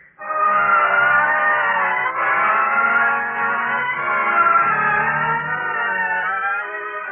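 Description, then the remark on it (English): A car engine runs loud for several seconds, its droning whine holding steady with slight rises and dips in pitch as the vehicle drives along. No one speaks. “Let's sit in the car for a minute.”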